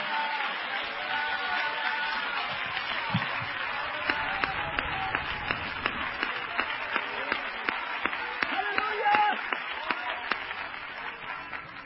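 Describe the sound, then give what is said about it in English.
An audience claps for the Lord together in a steady, quick rhythm over a dense wash of crowd noise and voices, the clapping growing sharper and more unified after the first few seconds. “Let's clap for the Lord and shout today with a voice of triumph.”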